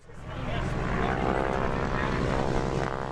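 The droning roar of the propeller engines of the B-17 bomber Aluminum Overcast at Champaign's Willard Airport swells in within the first half second, then holds at a loud, steady level, with a deep rhythmic throb and a rich buzzing hum.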